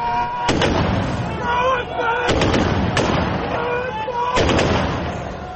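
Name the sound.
explosions and gunfire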